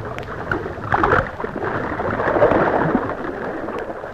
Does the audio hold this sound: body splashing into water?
yes